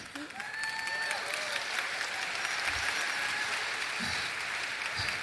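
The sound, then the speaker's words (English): Steady audience applause fills the whole stretch, a dense, even patter of many hands clapping at a constant, moderately loud level, with a few faint whistle-like tones and murmurs underneath. “I'm going to take that applause because I'm really honest, it's not that easy.”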